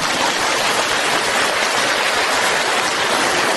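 A large crowd claps together in a dense, steady roar of applause that holds at an even, loud level for several seconds, with no voices standing out.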